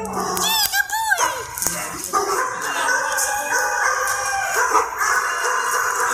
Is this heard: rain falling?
no